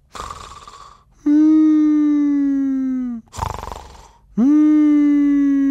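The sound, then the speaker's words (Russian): A voice imitates a man's plaintive snoring during a nightmare, twice: a raspy, breathy snort followed each time by a long, drawn-out, whimpering moan that droops slightly in pitch. Loud, with no other talk. “Но потом дяде Юлиусу приснился, видимо, кошмар, потому что его храп стал звучать так жалобно.”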